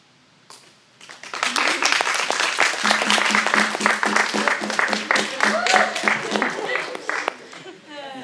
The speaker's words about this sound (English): You can't clap anymore, can you? What? You can't clap anymore, can you? No, I can do this.